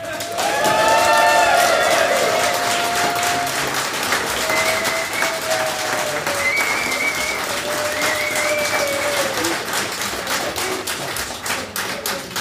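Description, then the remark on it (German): Steady applause from a crowd welcoming a guest fills the whole stretch, dense and fairly loud, with brief whistling or cheering tones rising above the clapping now and then. “bitten an dieser Stelle um einen tosenden Applaus für unseren Gast”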